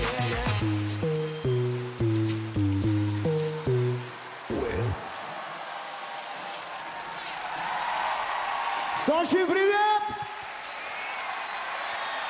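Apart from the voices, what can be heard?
audience applause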